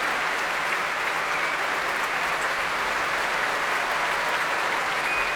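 Sustained, dense applause from a large concert audience after an orchestral performance conducted by Andreas Nelson, as a wind soloist is brought to his feet; a steady wash of clapping hands that holds at an even, fairly loud level throughout, with no voices standing out.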